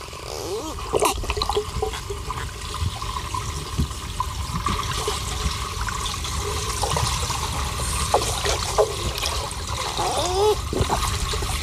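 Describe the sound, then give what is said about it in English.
A dolphin vocalising underwater, with scattered rising whistles and sharp clicks over a steady rushing, bubbling wash of water noise, moderately loud throughout. “If you're wondering, that is a dolphin.”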